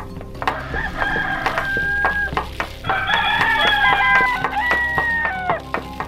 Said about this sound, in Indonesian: ayam jantan pun berkokok sebagai tanda datangnya pagi.